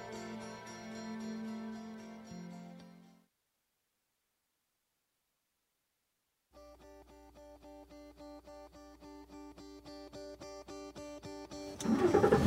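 A car engine hums, cuts to a brief silence, then cranks and turns over with a steady rhythmic chugging that grows louder as the car pulls away, driving from El Paso into Mexico. No one speaks.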